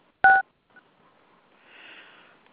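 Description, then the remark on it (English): A telephone keypad tone sounds as someone dials star six to come off mute on a call: one loud, short dual-pitched beep, then a faint brief blip, followed by soft hissy line noise. No one speaks. “Heard someone there supposedly coming off mute, the star six.”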